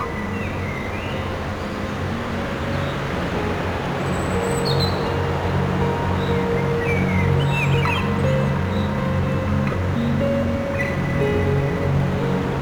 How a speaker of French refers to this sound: Forêt mixte. Le bruit sourd du torrent.